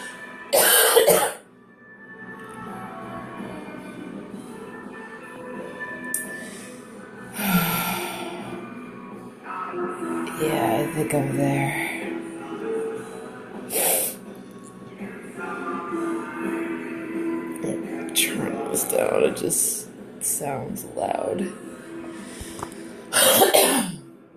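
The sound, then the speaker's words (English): Harsh coughing comes in scattered bursts, a loud fit at the start and more at intervals, with throat clearing and heavy breathing in between. “Probably not as bad as my coughing, but fucking deal with it.”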